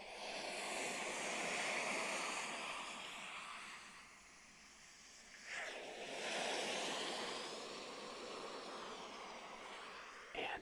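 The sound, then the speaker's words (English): A recording of powerful ocean waves, played for falling asleep at night, roars continuously: a broad wash of surf that swells and recedes, with a sharper crash breaking through midway and another near the end. No voices are present. “This is fall asleep with powerful waves at night.”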